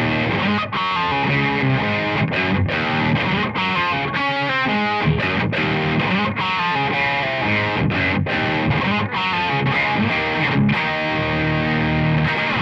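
A heavily distorted electric guitar riff chugs along loud and continuous, with sharp rhythmic stops and a repeating, bluesy pattern of gritty, saturated notes and no voices.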